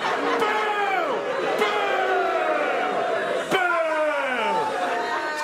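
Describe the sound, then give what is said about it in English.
A crowd boos loudly and continuously, many voices sliding downward in long drawn-out moans that overlap in waves, with a couple of sharp claps or thumps cutting through. “Don't boo me! How would you like it if I booed you?”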